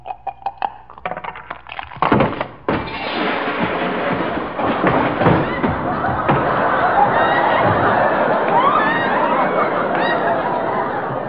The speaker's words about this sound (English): Okay, here's the dice. It's your roll. Now, wait a minute. Wait a minute. Are you sure these dice aren't loaded? Loaded? Oh, it's just heavy ivory, that's all. Just heavy ivory. Roll them.